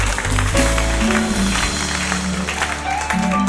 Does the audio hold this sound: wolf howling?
no